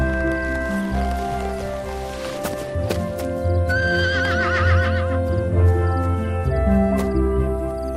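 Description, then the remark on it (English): A horse's hooves clop on hard ground in a loose, uneven rhythm as a person sits on it for a photo, and partway through the horse lets out a loud, quavering whinny, all over a steady low background hum. “Photo of me on the horse real quick.”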